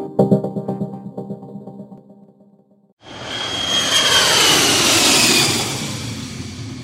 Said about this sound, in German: Noch heben sie ab. Etwas mehr als 30.000 Flugzeuge starten und landen jedes Jahr auf dem Dortmunder Flughafen in Wickede.